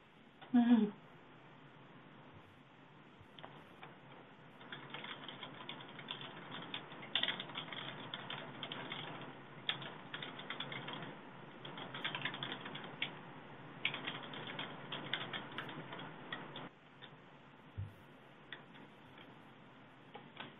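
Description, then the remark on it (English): Rapid, continuous clicking of keys on a computer keyboard, steady for most of the stretch, with brief pauses and a low background hum. “I hear some typing.”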